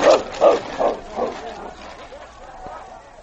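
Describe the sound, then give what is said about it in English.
Sled dogs bark in a quick, evenly spaced run of about four loud yaps, then the barking tapers into softer, fainter yelps that fade away. “The trail, now beaten down by the passage of the two dog teams, made easy traveling for the Mountie and King.”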